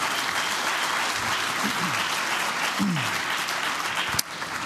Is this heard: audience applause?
yes